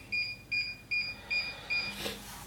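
The touch control panel of a new stove beeps five times in a steady, quick rhythm while onions are browned in lard in a pot, each a short, high electronic tone, followed by a brief burst of hissy noise at the end.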